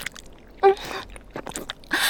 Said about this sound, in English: Do you prefer it when I swallow over and over? Like I'm trying to suck you in the rest of the way?